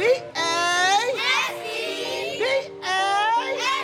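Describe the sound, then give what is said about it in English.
About 30 girls and teenagers of the Buffalo All-Star Extreme (BASE) cheer team practicing competitive cheer in a big gym in Buffalo, New York, their high-pitched voices shouting and chanting together in loud, overlapping bursts with brief pauses between calls. “Inside a big gym, 30 or so girls and teenagers are practicing cheer.”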